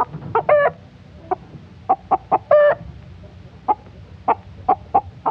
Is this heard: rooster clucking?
yes